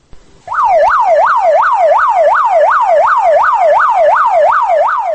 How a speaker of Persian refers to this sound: ماشین یاری طبی تعجیلی صدا می داد که سوی بیمارستان خوجند حرکت می کرد.